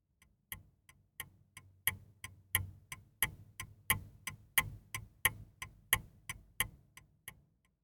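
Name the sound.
clock ticking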